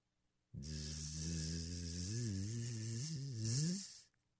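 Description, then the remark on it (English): A voice imitates a buzzing bee with one steady, nasal drone lasting about three and a half seconds, its pitch wavering slightly before rising and cutting off. Fairly loud, with no other sounds. “A bee?”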